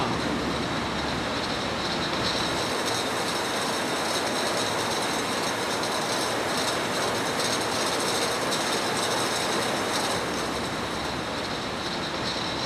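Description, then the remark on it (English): Glass hot sauce jars rattle and clink along bottling machinery, coming through a steam chamber that sterilizes and heats them on the way to the filling machine, in a steady, dense mechanical clatter that stays loud and unbroken throughout, with a constant hiss underneath and no talking. “Here's the glass coming through the steam chamber on down to the filling machine.”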